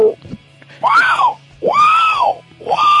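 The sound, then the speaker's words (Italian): A loud, wailing African bird call from a sound-effects machine, repeated three times in a steady rhythm, each cry swooping up and then sliding back down in pitch, with a low hum underneath. “Questo era un uccello africano.”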